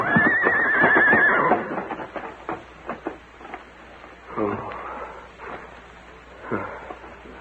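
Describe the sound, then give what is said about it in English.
A horse, Silver, gives a loud, wavering whinny at the start, followed by a scattering of hoof clops and some faint movement noise; a few more clops come later, spaced out. “Well, there's a limit to what a horse can do.”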